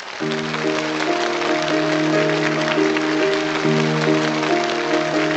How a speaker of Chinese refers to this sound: 让我们掌声欢迎朗读者